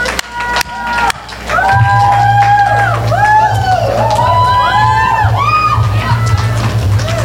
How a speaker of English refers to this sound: So let's please give her a real loud welcome and bring her up to the stage. Salvat, with a loud round of applause.